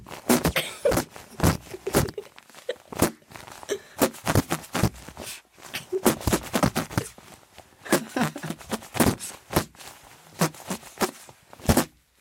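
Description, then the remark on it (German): Whoopee cushions make a string of buzzy, sputtering farts, dozens of short bursts in an uneven rhythm, loosely trying to play the children's tune 'Alle meine Entchen', with no talking over them. “Oh, ja, dann könnten wir zusammen mit unseren Pupskissen ein Lied pupsen.”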